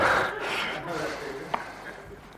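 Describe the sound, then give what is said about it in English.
A heavy, rushing breath into the microphone, loudest at the start and fading gradually, with a brief click near the end and no clear words. “Take my breathing out of the picture a little bit, otherwise you'll all get terrified.”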